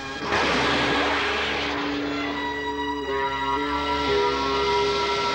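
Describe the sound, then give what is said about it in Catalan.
A loud, whining engine drone of a flying motorbike carrying a young man and a cat, steady, with a hissing rush beneath and its pitch shifting slightly as it heads toward two people; no one speaks. “Es desplacen amb una mena de moto voladora.”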